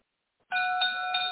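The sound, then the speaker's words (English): A boxing ring bell at a Matchroom Boxing heavyweight event rings out loud after a brief silence, a bright metallic clang that keeps ringing with a couple of quick repeated strikes. “At the sound of the bell, your third man in the ring from Oxy, referee Lee Every.”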